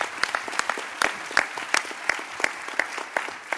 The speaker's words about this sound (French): Donc, tout d'abord, on voulait remercier Marseille pour la qualité de leur congrès, du contenu et de l'organisation. Et je vous propose qu'on applaudisse Marseille.